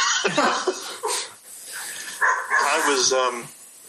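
A dog barks and yelps in the background in several short, uneven bursts, with whiny, drawn-out cries in between, fairly loud.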